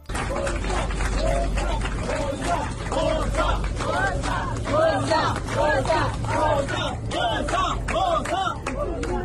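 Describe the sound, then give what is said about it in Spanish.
Migrants aboard the Open Arms rescue ship celebrate news of disembarking in Italy, shouting "Boza" (Victory). Many voices shout and chant together in a jubilant, steady roar, with rhythmic bursts of loud yelling and some clapping mixed in throughout. “Al grito de Boza, Victoria, en un dialecto africano, celebraban la noticia.”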